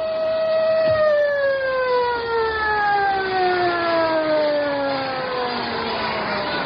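wailing siren

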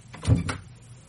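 door opening

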